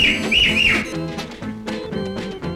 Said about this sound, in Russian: И три раза громко свистнула она.